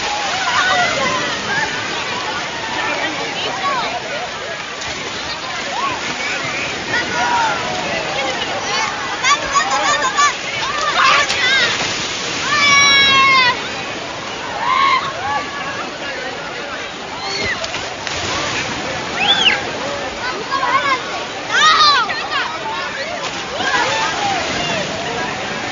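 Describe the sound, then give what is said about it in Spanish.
Continuous splashing and sloshing water fills a busy water-park scene at Acuópolis, with a wave attraction where waves break, a babble of voices and occasional high excited shouts rising over the steady rush. “Y lo que no hemos hablado, lo rápido que uno se pone moreno, estando nada más que un día de playita intensa como aquí en Acuópolis, rodeado de agua, no parando de estar al sol.”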